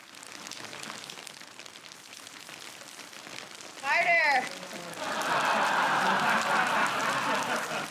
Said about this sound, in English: Cue the rain, please.